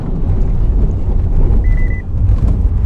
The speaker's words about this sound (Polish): I teraz wjeżdżamy w ciężki, prawdziwy teren. Wielkie kałuże, a Dacia idzie do przodu.